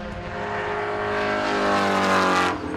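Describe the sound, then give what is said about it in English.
A loud, high-revving race car engine roars at Sonoma Raceway in Sonoma, California, its pitch climbing steadily over a few seconds before cutting off sharply, with no talking. “we are back on the Sonoma Raceway in Sonoma, California, for another presentation about Cars 3”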